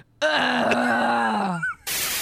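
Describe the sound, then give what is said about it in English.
A person imitates the loud grunt of a 4-year-old child: one long, strained, groaning vocal sound held for about a second and a half, low-pitched and rough, trailing off before a burst of hiss. “I think if you've got to grunt that much, you need Metamucil.”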